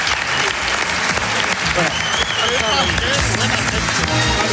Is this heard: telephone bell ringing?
no